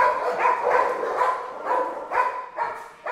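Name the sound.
many dogs barking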